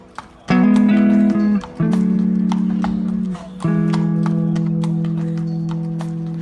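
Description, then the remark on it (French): Steady horse hooves clip-clop at a walking pace as a rider crosses a city on horseback, sharp regular clicks running throughout beneath loud sustained musical chords that swell in three long held phrases. “Parce que c'est l'audace, c'est l'animal et l'homme qui traversent la ville en saluant tout le monde. Moi et mon cheval.”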